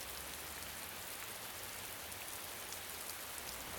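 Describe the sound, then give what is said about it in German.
Steady rain begins to fall at night as a patrol car reaches the driveway to an asylum: a continuous, even hiss, raindrops pattering densely on a surface with a faint low rumble underneath. No voices, just the unbroken wash of rainfall at moderate volume. “Ein dunkler Regen begann gerade zu fallen, als der Streifenwagen die Zufahrt zum Arkham Asylum erreichte.”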